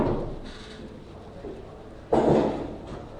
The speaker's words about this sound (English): Close the door behind you, please.